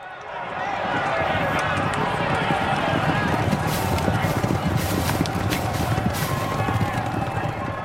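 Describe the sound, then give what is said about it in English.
A thundering mass of galloping hooves from many horses running together in the 1995 Grand National horse race, dense rapid thuds, loud, over a steady roar of crowd noise and indistinct voices throughout. “Here's a recording of the 1995 Grand National.”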